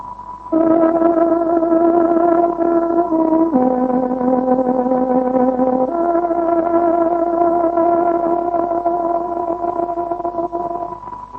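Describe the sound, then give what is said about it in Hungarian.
A tárogató plays the 13 o'clock time signal on Radio Free Europe's Voice of Free Hungary: three long, sustained reedy notes, the pitch dropping and then rising again, loud and alone with no talking over it. “Kedves hallgatóink, pontos időjelzést adunk. Tárogatónk 13 órát jelez.”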